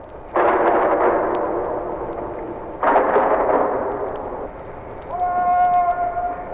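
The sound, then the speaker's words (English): Two loud rifle volleys from a 21-gun salute at Arlington National Cemetery on a cold, rainy day, a few seconds apart, each cracking sharply and rumbling away slowly, followed by a steady, sustained horn-like tone of taps that starts near the end. “He was to play taps after a 21-gun salute.”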